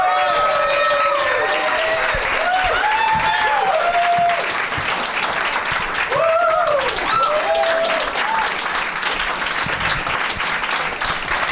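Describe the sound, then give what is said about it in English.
Steady, loud audience applause welcoming actors a performer, Keith Powell and Lamorne Morris to the stage, a dense wash of clapping with scattered whoops and rising cheers cutting through on top. “I said, I asked for thunderous applause.”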